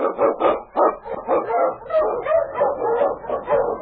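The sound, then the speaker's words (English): King, the husky Eskimo lead sled dog of Sergeant Preston in The Challenge of the Yukon, barks and yips in a rapid, excited run of overlapping calls, loud, continuing without pause for several seconds with no talking. “The Wonder Dog King, swiftest and strongest of Eskimo lead dogs, blazes a trail through storm and snow for Sergeant Preston as he meets the Challenge of the Yukon.”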